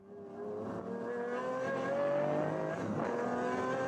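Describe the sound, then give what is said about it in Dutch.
The powerful AMG V12 engine of a Pagani Zonda supercar revs hard, its rising harmonic roar climbing steadily and staying loud for several seconds, with no voices. “Start your engines. In dit geval een magistrale V12 motor van AMG.”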